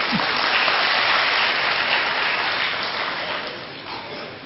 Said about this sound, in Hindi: देखो अच्छा लगा ना, देखो जिसने जोर से बोला उसके लिए ताली बजा दो।